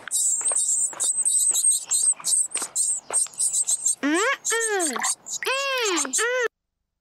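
Busy, high-pitched chirping from several thirsty sparrows in a nest near swings, rapid and overlapping, followed by a few louder, rising-and-falling squawking calls before it stops abruptly.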